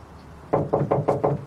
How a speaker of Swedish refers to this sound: Jehovas vittnen knackar på.